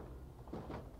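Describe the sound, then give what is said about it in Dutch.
A door is quietly opened or closed as someone is helped to walk through it, giving a couple of soft, muffled bumps close together over a low, steady background. “Hoepla. Weer een deur door.”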